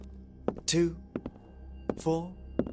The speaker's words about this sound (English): But then my thought process was cut short by the sound of footsteps.